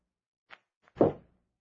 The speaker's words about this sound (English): That knocking again. Beside me.